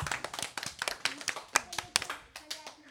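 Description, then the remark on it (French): A group of people applauds after a presentation about the orca, with sharp, irregular hand claps overlapping in a steady patter for about three seconds at moderate loudness. “d'avoir dit un document sur l'orque et un maximum d'applaudissements s'il vous plaît.”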